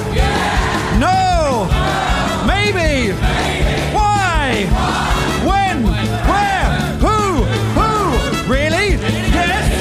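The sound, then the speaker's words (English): A show's audience screams and shouts together on cue, overlapping yells rising and falling in pitch in repeated loud surges, with a steady, dense roar throughout. “Do a scream. And shout, yeah!”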